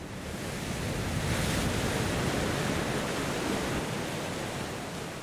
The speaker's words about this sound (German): Plötzlich schlägt das Wetter um. Der Wind dreht, Böen wühlen das Meer auf. Dunkle Wolken bringen Regen. Die Cobia tanzt auf den Wellen.